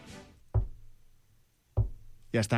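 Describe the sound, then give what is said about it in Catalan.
Two firecracker bangs, each a sharp, muffled boom with a short low rumble, a little over a second apart, with a voice speaking briefly before and after them. “Això és un petardo, allà.”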